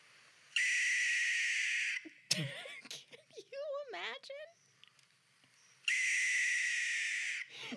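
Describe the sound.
Two long, harsh, hissing owl screeches, each lasting about a second and a half, loud, with a brief stretch of someone talking in the gap between them.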